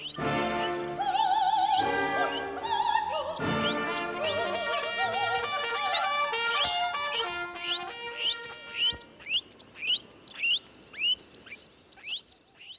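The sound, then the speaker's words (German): A dense, high-pitched collage of rapid chirps and squeaks repeats throughout, layered over sustained, shifting musical tones, continuous and fairly loud with no voices. “Ein hohes Gezwitscher und Gefiepe.”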